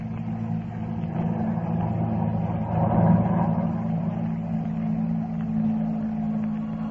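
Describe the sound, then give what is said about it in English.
The engine of an airplane that cannot be seen drones steadily with a low, humming tone, swelling slightly louder midway before settling back to an even rumble. No voices are heard. “But the expression on his face and the sound of the airplane that couldn't be seen convinced me of his sincerity.”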